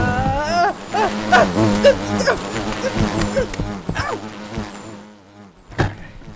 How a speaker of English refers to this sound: Oh crap, I forgot there were bees!